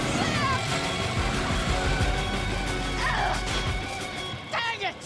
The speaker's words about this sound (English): Mikey starts the truck and speeds off.